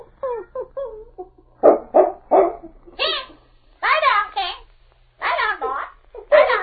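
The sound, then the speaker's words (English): A parrot squawks out shrill, speech-like commands to a dog named King in several loud bursts, with a short run of three sharp barks from the dog partway through. “Remember when I taught him to shout orders to King the way you do?”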